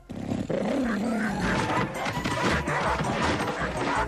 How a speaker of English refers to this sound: Uh-oh. Guard dogs.